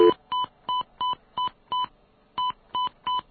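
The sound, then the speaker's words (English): A phone number is dialed on a telephone keypad to place a call: eight crisp touch-tone beeps in a quick, steady rhythm, with a short pause after the fifth, clear with no talking. “let's try and make a phone call here. Trying to connect with Kyle”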